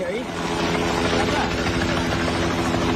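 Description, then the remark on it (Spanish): Helicopter rotors thump steadily and loudly, a continuous churning drone with a rapid rhythmic chop filling the whole recording; helicopters carrying out search operations in Nepal after deadly floods, caused by a glacier collapse, near the border with Tibet. “Es el sonido de los helicópteros en Nepal que continúan haciendo labores de búsqueda tras las gravísimas riadas del pasado miércoles en la frontera con el Tíbet, provocadas por ese colapso de un glaciar.”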